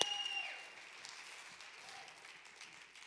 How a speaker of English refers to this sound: Come on, let's give her a loud applause.